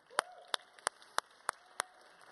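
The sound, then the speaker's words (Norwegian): Six sharp, evenly spaced claps, about three per second, ring out fairly quietly over a low background hiss, like the start of applause. No one speaks. “Takk til vampyrene mine igjen, i din applaus.”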